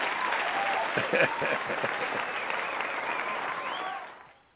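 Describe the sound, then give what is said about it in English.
A burst of dense crowd applause, steady clapping with a few faint cheers mixed in, holding loud for about four seconds before quickly fading out. “that's the first time on Blog Talk Radio you got an applause from the audience”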